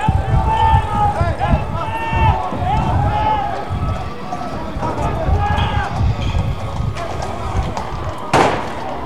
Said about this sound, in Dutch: Ja, de politie voert weer een charge uit. De politie te paard.